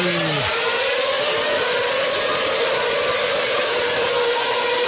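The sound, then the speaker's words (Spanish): A loud, continuous roar of racing car engines at full throttle as the start lights go out at a Grand Prix start, a pitch sweeping down at the very start before settling into a sustained high-revving whine, with no voices. “Se apagan los semáforos y aquí empieza el Gran Prix Electoral desde el circuito presidencial.”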